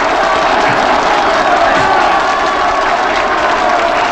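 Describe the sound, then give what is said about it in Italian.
A large crowd applauds and cheers steadily, a dense continuous wash of clapping with scattered shouts, loud and sustained from start to finish without a break. “92 minuti di applausi!”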